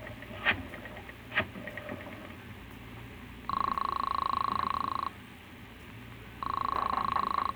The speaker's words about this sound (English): And now our hero staggers to his feet and heads for the phone. Then, with none too certain fingers, he dials the police.